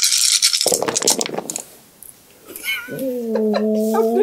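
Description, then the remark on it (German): Dice are rolled and clatter and rattle across a hard tabletop for about a second and a half, then a cat lets out a loud, drawn-out meow. No one speaks. “Patzer ist es, wenn man die Hälfte der Würfel oder mehr davon Einsen würfelt.”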